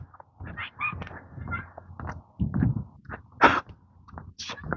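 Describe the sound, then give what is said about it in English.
Kids' shoes squeak and screech in short bursts against a fiberglass playground slide as they try to walk up it, some sharp and high-pitched, others lower and scuffing, in an uneven rhythm with no talking. “Sounds terrible, but I think it's just shoes on fiberglass trying to walk the slide up instead of down.”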